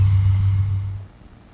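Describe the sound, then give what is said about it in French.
A tractor engine, a sound of agricultural production, drones with a steady, deep low-pitched hum for about a second, then quickly drops away to a faint rumble. No one speaks. “Voilà un petit son qui illustrait justement les sons de la production agricole.”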